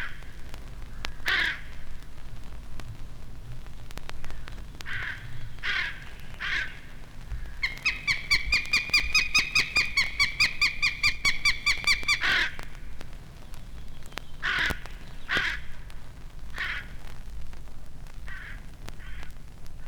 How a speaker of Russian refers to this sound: На его крик прилетели и черные вороны. У них тоже птенцы.